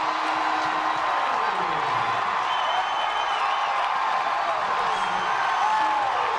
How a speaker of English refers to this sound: And he drives it high to right center field. Federico back at the wall. It's gone. A walk-off winner for Christian Turner. Listen to that crowd.